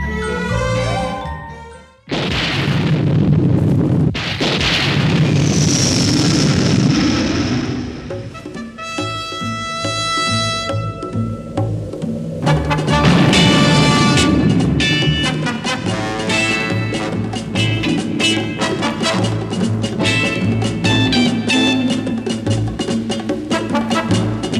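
A loud, driving punk rock song plays continuously, dense and distorted, with crashing cymbals and ringing tones that thicken after a brief dropout near the start.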